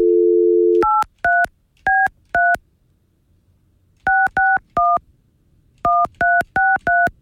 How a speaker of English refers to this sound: So I'm calling that phone number to call into Zoom.